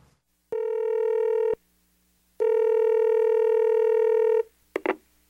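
A telephone ringback tone purrs twice, a shorter ring followed by a longer one after a pause, then a brief click as the line is picked up, as a woman calls someone after arriving at a meeting place. No one speaks.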